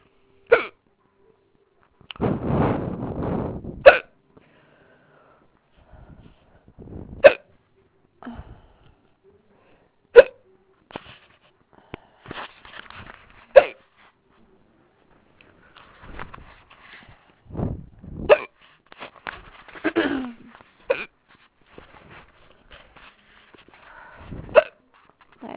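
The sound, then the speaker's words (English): A long series of loud, abrupt hiccups, the fourth bout of the day, hard but not painful, at irregular intervals, each a sharp jolt of breath, with a few softer breathy sounds and a rougher burst early on between them. “As you can tell, they're pretty loud today.”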